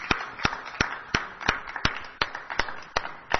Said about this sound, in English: Thank you so much for coming to the Granada Forum tonight. And let's give one more round of applause to Mr. Bill Thornton.